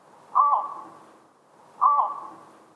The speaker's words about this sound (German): Aber Vogelsounds speichert dieses Ding. Und da ist jetzt auch mal ein Flugruf drauf gewesen von einer Rohrdommel. Der klingt nämlich so.